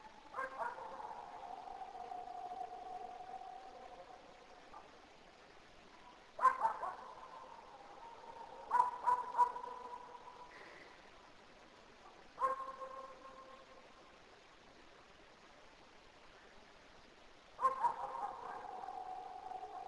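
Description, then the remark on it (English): A dog barks several times at irregular intervals, sometimes in quick bursts of two or three, over a steady low droning hum. “There's a dog over near there too, barking at it.”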